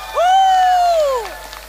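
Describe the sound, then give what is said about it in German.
A single loud, high-pitched cheer rings out for over a second, rising quickly, holding steady, then sliding down at the end, with faint background noise behind it, cheering that Bartimaeus can see in a telling of the Bible story. “Jubelt mal.”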